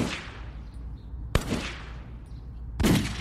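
Three gunshots, each a sharp, loud crack with a brief ringing decay, spaced more than a second apart with a low rumble between them and no voices.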